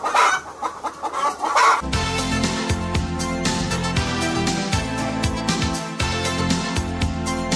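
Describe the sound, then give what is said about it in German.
Hens cluck and squawk on their own for a couple of seconds, then a loud, bass-heavy dance track kicks in and keeps going, with the clucking still mixed into the music. “Alle anderen Hühner sind sowieso Disco-Hühner.”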